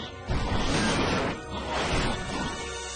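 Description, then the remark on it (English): A heavy crash as the giant pineapple monster Pineapple Head jumps over a car and slams into it, with a loud crunching impact followed by a second rumbling smash and lingering clatter, forceful. “He jumps over a car and hits it.”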